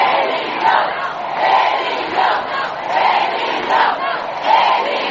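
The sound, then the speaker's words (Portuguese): A large crowd of protesters on a march in Brazil chants in unison, repeating the slogan "ele não" in a steady, rhythmic pattern with loud surges every second or so, the voices blending into a continuous roar. “Ao longo da caminhada, os manifestantes gritaram palavras como "ele não".”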